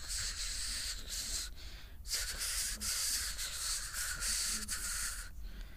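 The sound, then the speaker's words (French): A voice imitates rain with a steady, bright hissing "shhh" that runs for several seconds, pausing briefly twice before resuming at an even loudness, then easing off at the end. “Ah, il y avait la pluie aussi, il y avait la pluie.”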